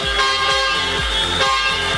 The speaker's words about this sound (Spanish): Muy bien, bocina.